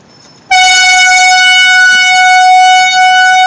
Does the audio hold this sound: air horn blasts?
yes